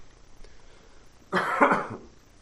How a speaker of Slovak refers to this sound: Spokojne si odkašlite. Stačí mi naznačiť a ja stiahnem mikrofón, aby to nebolo také bombastické.